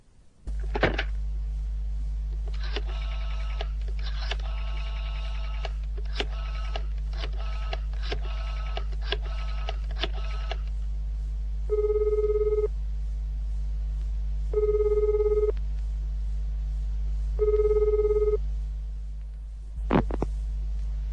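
A telephone number is dialed in a quick run of electronic beeps, then three evenly spaced ringing tones sound through the earpiece over a steady low hum, with no one talking.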